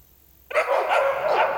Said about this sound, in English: A moment later, the neighborhood dogs erupted. The barking came from every direction, frantic and overlapping, as though something had moved through the night.